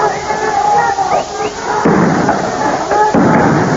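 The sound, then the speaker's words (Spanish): Two tear gas canisters are fired by police at students in quick succession in Barrio Clínica, Córdoba, at 19:50, each a sharp launch bang followed by a rushing hiss, loud, with shouting crowd voices throughout. “Disparos de gases lacrimógenos.”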